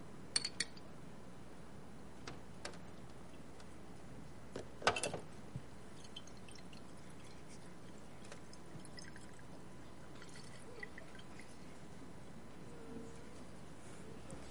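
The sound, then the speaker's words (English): A wet rag drips water in scattered, irregular drops, with one louder splashy burst partway through, all fairly quiet over a soft steady background hiss. “If we put this rag in here, this water, and we can't get it out.”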